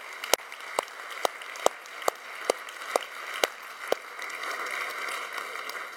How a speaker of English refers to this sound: Can we give the Lord applause?